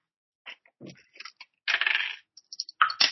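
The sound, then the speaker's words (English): Dice rolled for a Listen check in a game clatter and tumble across a hard tabletop: a few light taps, a brief rolling rattle, then scattered clicks as they settle, with no one talking. “Dice.”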